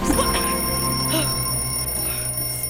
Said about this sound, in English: Sorry. I was trying to put some of your clothes away, and I knocked over your alarm clock.